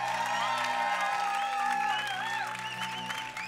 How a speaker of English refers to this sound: why don't we give them a big old clap today?